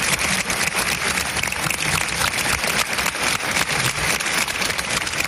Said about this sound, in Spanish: Aplausos de centenares de valencianos que, como te decía, se han concentrado frente al Ayuntamiento de la capital del Turia para rendir emotivo homenaje a las víctimas del incendio.